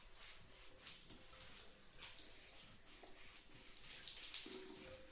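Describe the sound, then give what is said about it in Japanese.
Warm water pours and splashes steadily from a shower or tap, a continuous rushing with small splattering bursts as it rinses soap foam off a body, no voices present. “それじゃあお姉さん、お湯で泡洗い流してあげる。”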